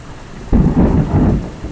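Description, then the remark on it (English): A sudden clap of thunder from three lightning bolts striking at the same time and the same spot during a thunderstorm bursts in and rolls into a deep, loud rumble over the steady hiss of falling rain, with no voices. “Three different lightning bolts all happening right at the same time.”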